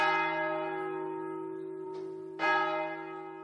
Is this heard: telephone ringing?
no